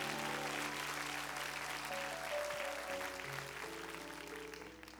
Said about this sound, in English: How about a round of applause for every dad that's in the room right now? Go ahead and celebrate them. Celebrate these fathers.